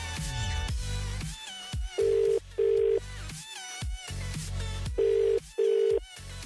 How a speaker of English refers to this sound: So, phone line is ringing. Remember, if it's ringing, it might be us. Pick it up. Please pick it up.